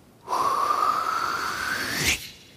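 loud exhale

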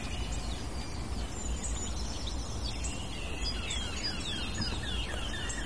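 eurasian blackcap song

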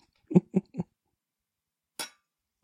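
glasses clinking

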